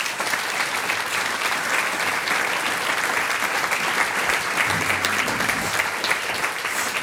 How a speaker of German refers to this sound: Das ist einmal euer Applaus, wir freuen uns dann auf euer nächstes Stickel.